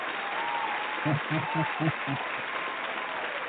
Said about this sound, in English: Well, let's give everyone an applause that have supported you in all the years.